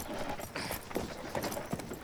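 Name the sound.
horse hooves clip-clopping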